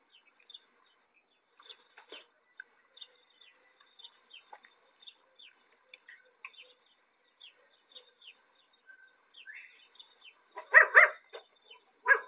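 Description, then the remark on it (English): A small chihuahua lets out a short burst of sharp, high yapping barks near the end, after a quiet stretch of faint scattered clicks and chirps. No one speaks. “My little chihuahua's like, I'm gonna go check it out.”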